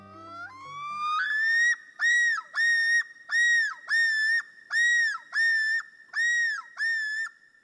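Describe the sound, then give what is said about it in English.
A common loon's yodel, given by a male on its breeding territory: a rising, wavering whistle that swells into a loud series of about eight repeated, undulating high-pitched notes in a steady rhythm, with no talking. “Does this call of the common loon bring to mind a summer visit to northern lakes with sunny blue skies?”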